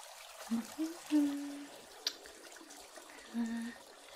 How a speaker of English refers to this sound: A basin. Add some lukewarm water.